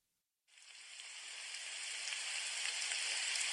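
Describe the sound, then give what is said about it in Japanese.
Steady rain starts abruptly after a brief silence, a dense hiss of falling drops that stays even, with no voices. “雨の音を聞いていた。”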